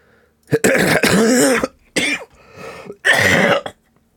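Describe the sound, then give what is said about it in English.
A loud sneeze, a sharp explosive burst followed by a couple of shorter noisy bursts and sniffs over about three seconds, with no talking. “Bless you.”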